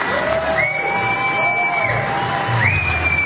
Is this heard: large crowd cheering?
yes